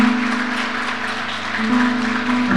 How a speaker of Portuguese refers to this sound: Você pode dar uma forte salva de palmas ao Senhor Jesus?